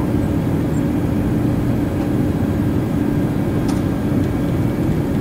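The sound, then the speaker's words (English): A simulated airplane in a flight simulator taking off, flown with a yoke; its engines roar in a steady, dense low rumble that holds at an even loudness throughout, with no voices over it. “He just took off with a yoke.”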